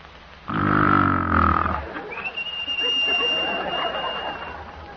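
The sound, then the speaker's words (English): A man's voice imitates a frictional, non-lubricated type of snore: a loud, rough, rasping grunt on the in-breath, then a long, softer wheezy exhale carrying a faint thin whistle. “B is the frictional or non-lubricated form, like this.”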